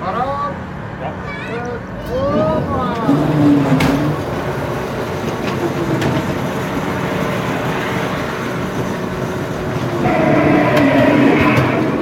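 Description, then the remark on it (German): A fairground ghost train at a Swiss Kilbi fair rumbles steadily along its track, with rising and falling wails and muffled voices mixed into the loud, continuous clatter of the ride. “Ein klassischer Ort vom Horror bis heute ist die Geisterbahn an der Kilby.”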